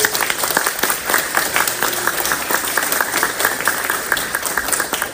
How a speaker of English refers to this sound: You, the staff who are amongst us, the volunteers who are amongst us, are the people that make this happen every day. So if we could please just have a round of applause for staff and volunteers.